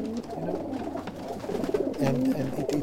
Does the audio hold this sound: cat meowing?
no